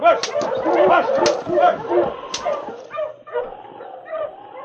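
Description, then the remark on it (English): A pack of huskies barks and yips excitedly, overlapping calls in quick bursts, loud at first, then settling into scattered higher yelps and whines. “All right, you huskies.”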